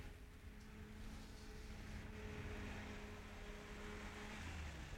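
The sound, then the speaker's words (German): A steady engine drone with a low humming tone holds throughout, the pitch shifting slightly near the end as a car seems to draw closer. No one speaks. “Hörst du? Auto?”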